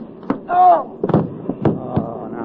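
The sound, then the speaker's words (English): A scuffle of punches knocks out a railroad cop: about five sharp, thudding blows land at an irregular pace, with a short strained vocal cry early on and rough voices mixed in among the hits. “Hey, son, you knocked out a cop.”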